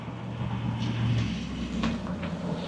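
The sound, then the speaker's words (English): A large vehicle's engine rumbles with a steady low drone and a faint whine, a bus pulling in, with a few brief clicks and hisses over the hum. “Here comes the bus.”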